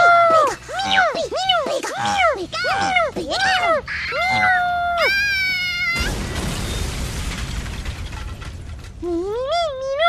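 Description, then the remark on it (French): A cat yowls loudly as it attacks, in a rapid series of arching, wavering cries, then a harsh crashing burst of noise takes over before one last rising yowl. “Et moi, j'ai un chat. Oh non, non, pas ça. Titou, à l'attaque!”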